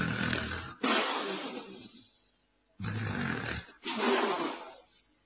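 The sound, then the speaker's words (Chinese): A voice imitates the loud, thunderous snoring of a very drunk man lying asleep: two long, rumbling snorts, each trailing off into a breathy exhale, separated by a brief pause. It is forceful, with no other talking. “喝得烂醉如泥，在那躺着四脚拉碴，正打呼噜呢，打的那个呼噜像雷声一样，这叫吹破天的呼噜。”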